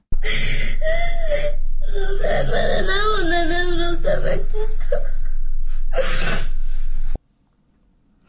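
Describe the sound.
A schoolgirl in Afghanistan sobs and wails loudly in distress, apparently over the Taliban decision to keep schools closed to girls above sixth grade, her voice rising and wavering in drawn-out cries broken by gasping breaths, continuous for about seven seconds before cutting off into silence.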